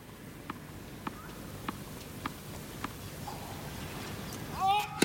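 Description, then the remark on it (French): Novak, the Serbian player, bounces a tennis ball on his racquet five times before his second serve. Each light tap is crisp and comes in a steady rhythm against a low, steady background hum, followed by a brief high whistle near the end. “Et Novak qui fait rebondir la balle avec sa raquette.”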